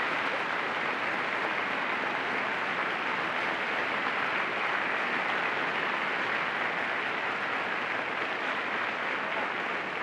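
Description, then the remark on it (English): A crowd applauds steadily for the full ten seconds, a dense, even wash of clapping that stays loud throughout with no voices rising above it. “We'd like to have a tremendous applause”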